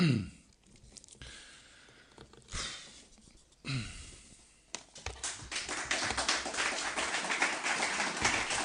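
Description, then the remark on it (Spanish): Scattered taps and short bursts give way, about halfway through, to dense applause from an audience giving an ovation after a speaker thanks their parents, which swells and holds steady and loud until the end. “Y la ovación de los presentes al acordarte de tus padres, ahí la emoción ha podido y han aflorado las lágrimas, ¿no?”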